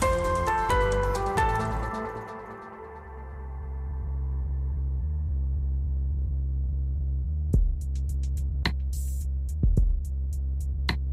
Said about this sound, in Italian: Modem.